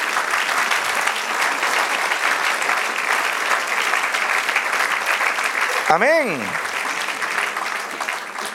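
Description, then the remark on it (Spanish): Sustained applause from a large crowd in praise of God, a dense steady clatter of clapping, while a single voice calls out briefly near the end with a rising and falling exclamation. “Denle un aplauso, alábelo.”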